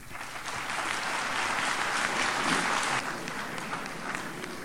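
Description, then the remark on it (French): Steady, dense applause from an audience at the end of a lecture, a continuous crackle of many hands clapping at a fairly even level, with a low murmur of voices mixed underneath throughout. “Il y a une sorte de brouhaha qui suit les applaudissements.”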